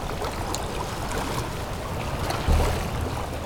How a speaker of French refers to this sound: Un vent tempétueux souffle. Créant ces vaguelettes.